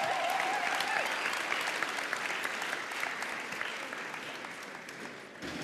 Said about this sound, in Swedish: Det kommer en kille springande med en whiteboard. Det är oerhört. Ge honom en applåd.